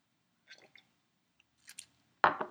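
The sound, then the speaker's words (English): Wet mouth sounds of someone sipping a drink of Roncal, with a few soft slurps and a gulp, then a louder swallow near the end. No one speaks. “Let me take another sip of my Roncal.”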